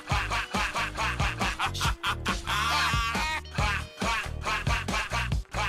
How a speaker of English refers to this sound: It does sound like he's just saying quack. Maybe he is. Oh. No. Yep. No. Yep. Like a deflating a toy.